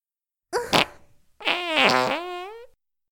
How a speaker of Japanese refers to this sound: ほら、くっさーい握りっぺ。